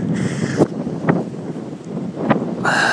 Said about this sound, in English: You can hear us over the wind and the rain.